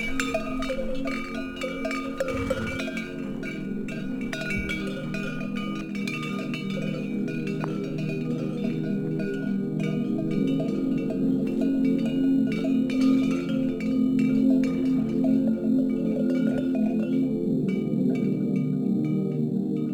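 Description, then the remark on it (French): Bells worn by a small herd of Mérens horses clank and clink continuously in an overlapping, irregular jangle of tones under bright sunshine, with no voices. “On s'éloigne de ce petit troupeau de chevaux. Chevaux de Mérens.”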